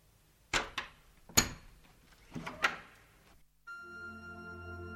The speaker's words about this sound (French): On tire le verrou, on tourne le loquet, la porte s'ouvre.